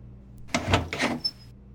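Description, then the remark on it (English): The door of a trading post in Canada is pushed open with two quick scraping, rushing movements, followed by a brief thin high ring, moderately loud with no voices. “Ian pushed open the door to the trading post and stepped inside.”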